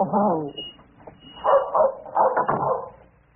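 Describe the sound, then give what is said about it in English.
A dog, Brownie, barks in three loud, drawn-out bursts with a whiny, yelping edge, separated by short pauses. “Now, Brownie's getting special new dog food.”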